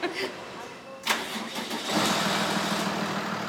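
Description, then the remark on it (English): The large truck engine of a mobile stroke unit carrying a CT scanner cranks over with a sharp burst, then catches and settles into a loud, steady rumbling idle as the unit heads out. “Then the mobile unit hits the streets.”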